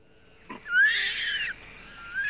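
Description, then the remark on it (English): A male baby orangutan, looking for its mother, gives a single high, squeaky whimper that rises in pitch and holds for about a second before fading, followed by a brief faint squeak, with no talking. “Goodness, it's a baby. A baby orangutan.”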